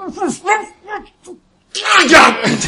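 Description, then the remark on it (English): Muffled, wordless angry yelling from a man punching his way up out of rain-soaked soil over a buried coffin in a cemetery, in several short bursts with brief pauses, then a louder, rougher stretch of shouting mixed with a noisy scraping rumble. “the muffled yells of an irate Ernest as he's punching his way out of the very earth”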